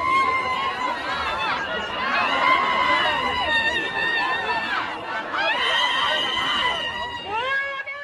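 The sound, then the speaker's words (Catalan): A woman screams loudly and at length in Plaça Sant Jaume, her shrill, wavering cries rising and falling in pitch over a murmur of crowd noise, with a brief break before a final burst. “Qui hi ha darrere la foto de la dona que crida a la plaça Sant Jaume convertida en mem?”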